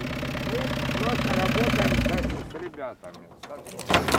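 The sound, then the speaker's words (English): A battered white van pulls up in Kharkiv, Ukraine, its engine idling with a steady low rumble for a couple of seconds, then fading as voices take over, with a brief clatter near the end. “Eventually, a battered white van pulls up.”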